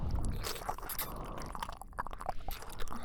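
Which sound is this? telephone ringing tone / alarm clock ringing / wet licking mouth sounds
wet licking mouth sounds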